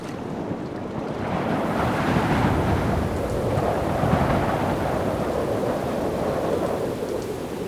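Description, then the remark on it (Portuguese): A heavy storm roars steadily, with dense rain hiss over a deep, continuous rumble of thunder. It swells slightly early on, then holds, with no voices. “Como o mar se encrespasse depressa, desisti de construir nova jangada e apenas com um saco às costas atirei-me na água, nadando até a praia a tempo de começar a chover.”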